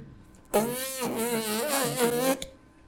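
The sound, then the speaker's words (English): A loud, buzzy lip vibration like a trumpet player's mouthpiece buzz, lasting about two seconds with a wavering, slightly rising and falling pitch, rough and insect-like, with no talking over it. “Now, when you're playing a trumpet, you buzz your lips. That doesn't sound very good.”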